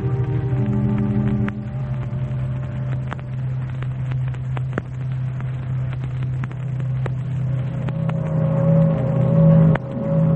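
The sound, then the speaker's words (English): A boat engine runs steadily on the river as the boat heads for its next landing at Louisville, a deep continuous drone with faint knocks and rattles scattered through it, swelling a little louder toward the end. No one speaks. “It was returning from the same visit on the boat.”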